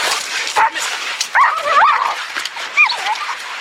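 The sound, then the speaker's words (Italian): Dogs yelp and whimper during a dog fight, recorded from a video, in a frantic, overlapping tangle of high-pitched cries, with sharp yips bursting out over a noisy, scuffling background, fairly loud. “Sono dei guaiti che abbiamo raccolto da un video che così mostra un combattimento fra cani.”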